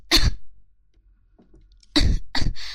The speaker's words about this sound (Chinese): 骂你这个贱狗，骂的我都咳嗽了！